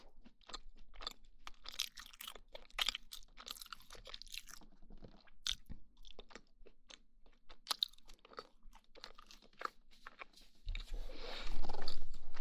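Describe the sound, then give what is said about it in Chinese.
Crisp, crunchy chewing of thick toast from a whole square slice cut into pieces, with sharp bites and crackles in an irregular rhythm, ending in a louder, rougher burst of crunching. No one speaks. “对了，这种吐司是厚的，这还是一整个正方形，我这切开吃的”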